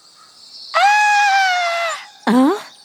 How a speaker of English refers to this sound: Who is shouting like that? That sounds like …. I think she needs my help.